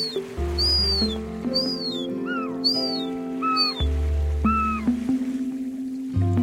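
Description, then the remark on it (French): Young herring gulls give a series of thin, plaintive whistling calls overhead, repeated roughly every second, over a steady low engine-like hum. “Il y a des jeunes goélands argentés. Ah oui, au-dessus de nous.”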